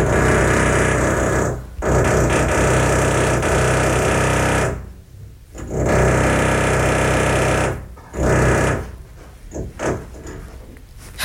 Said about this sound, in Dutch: vanaf 7 uur 's ochtends een half uur lang te beginnen met boren